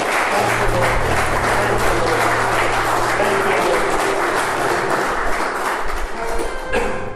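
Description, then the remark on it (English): A crowd claps steadily and loudly for about seven seconds, a dense, unbroken wash of applause over a faint low hum, tapering slightly at the very end. “Let's clap real good.”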